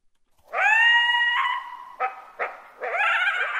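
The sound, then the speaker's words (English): Coyotes in Colorado, recorded by the National Park Service, howl in a high, wavering chorus of overlapping voices, broken midway by two short yipping bursts before another sustained howl rises and carries on to the end. “Those are coyotes in Colorado, recorded by the National Park Service as part of its project to capture natural soundscapes.”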